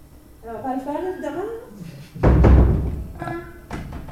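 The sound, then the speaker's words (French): A creaking door gives a long, wavering, rising squeal with a reedy, saxophone-like tone, followed by a heavy low thud and then a brief second creak. “Quelqu'un de porte, lui, fait un son de saxophone.”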